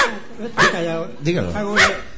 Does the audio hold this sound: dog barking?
yes